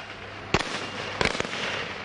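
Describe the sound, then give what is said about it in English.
Gunshots during street protests in Kibera slum, Nairobi, Kenya, crack out against a steady background hum: one sharp report, then a quick pair of shots about two-thirds of a second later, each with a brief echo. “Gunfire could be heard in nearby Kibera slum, an opposition stronghold and notorious flashpoint.”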